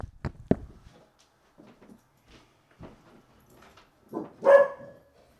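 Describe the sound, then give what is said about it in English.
A dog named Nessa vocalizes: a few sharp bursts at the start, quiet scattered sounds, then one louder, drawn-out bark near the end. No one speaks. “Oh, we got dissenting here. We got the dog.”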